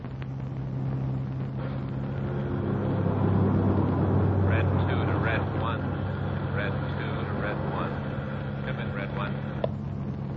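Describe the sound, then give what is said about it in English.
A car engine drones steadily with constant road rumble as it drives along the Pacific Coast Highway, and a few brief high chirps break through in the middle of the run. “He drove out Sunset Boulevard to the Pacific Coast Highway and turned right.”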